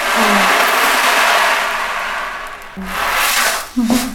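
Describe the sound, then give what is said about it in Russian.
An ocean drum at a music therapist's workplace makes a steady hiss of rolling beads that swells and recedes like surf, fading briefly before a second wave surges up, with a faint voice-like hum underneath. “Вот есть барабан от Ян, который напоминает волны.”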